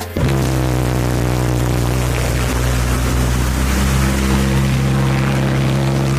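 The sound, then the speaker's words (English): A homemade boat's small motor drones loudly and steadily on the water as the boat goes in circles, its low engine hum holding a constant pitch, with sloshing and wash noise beneath. There is no talking. “And the boat was already filling up with water. And I also haven't figured out steering, I just went in circles.”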